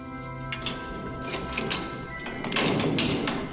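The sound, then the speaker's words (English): A door in a derelict, rundown church, leading down to the basement, is opened: a few soft knocks and thuds, then a longer rough scraping swing, over a steady humming drone. “So he opens this door and they head down a long, winding staircase to the basement.”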